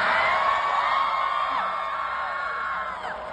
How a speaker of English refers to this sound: I love that. I love that they're cheering that.